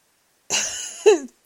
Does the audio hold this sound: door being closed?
no